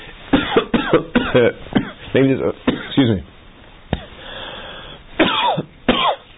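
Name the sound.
coughing fit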